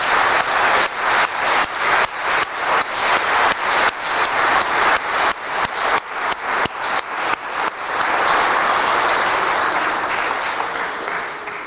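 An audience at a Mass claps for the presence of the priests celebrating it, starting in a loose rhythmic pattern of bursts before swelling into sustained, dense applause that holds steady and then tapers slightly at the end.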